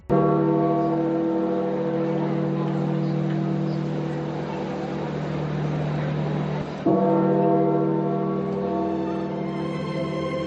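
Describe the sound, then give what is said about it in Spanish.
The large bells of St Peter's Basilica toll at 7:35 on Easter Monday, announcing the death of Pope Francis, with a deep, droning resonance that hangs continuously, rich in humming overtones, and a fresh loud strike renews the ringing about two-thirds of the way through. “Sí, así sonaba el tañido de las campanas de la Basílica de San Pedro, anunciando la muerte del Papa Francisco a los 88 años como consecuencia de una neumonía bilateral.”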